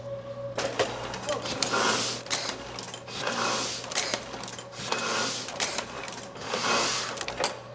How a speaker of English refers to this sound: This is all suction here. So it sucks up the paper, the arms grab the paper, they drop it down, they print it, they pick it up, and puts it back over here.